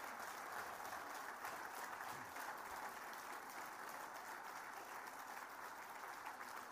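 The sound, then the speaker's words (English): An audience applauds in a steady, dense round of clapping that holds at an even level for several seconds, with no voices rising above it. It is a final round of applause for everyone at an evening event celebrating the work of hospital broadcasters across the country. “Let's give everyone a round of applause one final time.”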